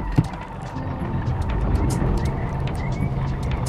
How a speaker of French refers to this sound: Tournez à droite sur le faubourg de Lorette. Nous reprenons la voiture et il faut rouler une quinzaine de minutes pour arriver